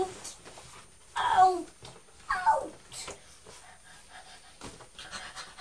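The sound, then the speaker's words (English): A young child pants rapidly in short, breathy bursts, like a chugging steam train, with two louder puffing spells and quieter breathing between. “You sound like a steam train going, or a little puppy.”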